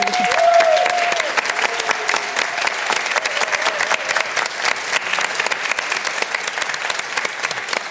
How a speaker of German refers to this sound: Und deswegen würde ich auch ganz kitschig jetzt mal kurz sagen, da hast du dir, finde ich, einen fetten Applaus verdient,